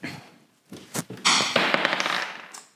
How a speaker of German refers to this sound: Aber ich finde, wir müssen geschwind zuerst würfeln.